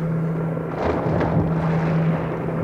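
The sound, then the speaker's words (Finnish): A loud, steady helicopter roar, a constant engine drone with a low humming tone and a broad rushing wash, holding level throughout with no voices; the Aamusanomat newspaper's helicopter descending to land at dusk. “Nyt se lähti laskeutumaan. Sehän on Aamusanomien helikopteri.”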